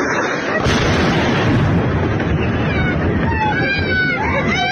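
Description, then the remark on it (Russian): A missile strike: a sudden, loud explosion bursts in early and rolls into a sustained, heavy roar, with thin wavering high tones rising above the rumble toward the end. “На Радуге свист. Ракета летит.”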